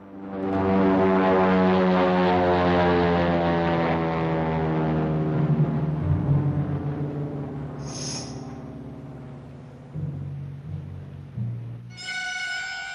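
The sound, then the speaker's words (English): A propeller plane drones loudly overhead with a steady, buzzing engine hum that gradually recedes and thins out as it soars past a mountain ridge, ending with a brief higher-pitched tone. “A propeller plane soars past the ridge.”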